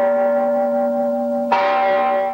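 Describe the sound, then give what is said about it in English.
A gong, struck by a native as part of a 21-gong salute to Princess Lala, rings with a steady metallic hum, then is struck again sharply and loudly, its bright, shimmering tone swelling and sustaining. No voices. “A native strikes a gong.”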